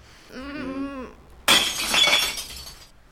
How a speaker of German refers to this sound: Oh, aber wie kriegen wir das bloß raus? Na, du hast doch das andere Glas auch schon zu schlagen. Das darfst du machen. Gib mir das Brecheisen. Ich bin ganz vorsichtig.